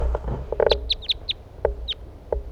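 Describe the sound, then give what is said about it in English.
Wild birds calling: a quick scatter of about seven sharp, high, downward-sliding chirps at an uneven pace, mixed with a few lower clucking notes over a soft rumbling background. “Wild birds.”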